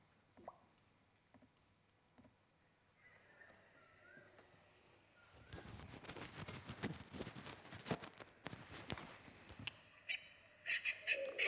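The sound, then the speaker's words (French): Bird calls in a jungle chirp and warble over a quiet outdoor background, growing busier and louder midway with dense, crackling bursts, then scattered sharp calls near the end. No one speaks. “Les oiseaux.”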